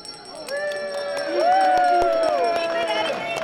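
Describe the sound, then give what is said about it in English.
A bell rings during a classroom life-simulation game, signalling that someone just had a baby, with a sustained, shimmering tone whose pitch wavers slightly as it lingers for a couple of seconds, over faint clicks and a soft murmur of background noise. “There's a bell that rings, and it means that someone just had a baby.”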